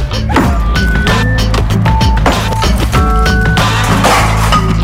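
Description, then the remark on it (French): A hammer strikes a wooden door with glass panes again and again, loud irregular thwacks mixed with bright clinks of glass, over a steady low rumbling background. “Il a commencé à casser, il a fait venir les journalistes. Marteau en main.”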